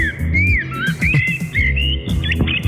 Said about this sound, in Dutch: Hoor ik nou een Merel? Ja.